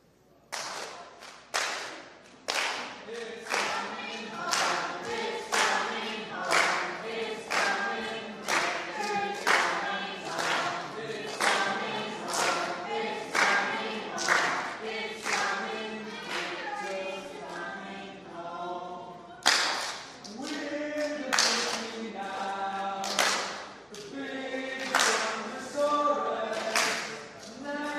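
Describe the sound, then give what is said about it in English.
The blue team chants a team cheer in unison over steady, rhythmic clapping, with sharp claps landing about twice a second; the chant breaks briefly, then restarts just as loudly. “Go ahead and start out your cheer for us.”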